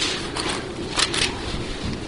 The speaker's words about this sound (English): If we turn back to the book of Mark in chapter 3, let's flip back there for a second. There's nothing better than hear this Bible pages turn in the Word of God.